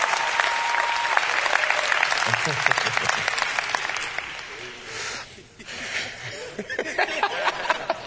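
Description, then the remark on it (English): Steady, dense applause from an audience, a thick wash of clapping that holds strong for several seconds, dips briefly, then swells back up, with a few scattered chuckles mixed in. “I just believe we just ought to applaud.”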